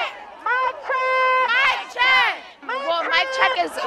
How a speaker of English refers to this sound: Mic check, so that way the person with the mic makes sure whatever they're saying gets out to the entire crowd. Et là, on est en train de faire un check de microphone. Elle crie des slogans et tout le monde les reprend.